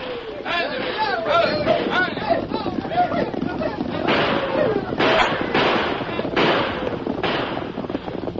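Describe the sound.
Wild shouting voices of riders over the rumbling clatter of many galloping horses charging through the deserted streets of the town of Jericho at night, followed by a series of loud gunshots cracking out at irregular intervals.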